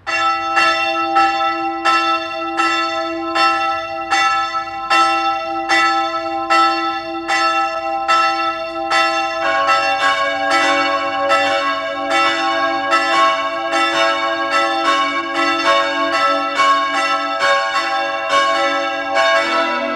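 Church bells of the parish church of St. Francis of Assisi in Lannach, Styria, ring steadily and loudly at noon, their overlapping tones building as a second bell joins partway through, creating a rich, continuous peal with no voices.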